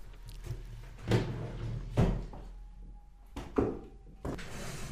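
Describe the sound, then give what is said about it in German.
A drawer slides open, followed by a series of wooden knocks and clunks as things are shuffled around inside while someone searches it for a gift, with soft rustling in between and no talking. “ich muss es noch vorgrübeln aus der Schublade hinter mir.”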